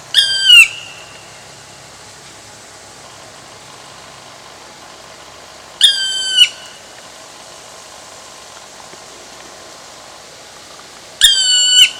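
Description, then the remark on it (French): A black woodpecker gives its contact call three times, each a brief burst of high, stacked, descending notes, spaced several seconds apart over a faint steady background hum. No one speaks. “Et on peut le repérer grâce à ses cris. Il en a plusieurs sortes. Tout d'abord, ce cri d'appel.”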